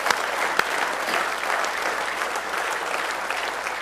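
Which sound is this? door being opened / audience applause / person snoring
audience applause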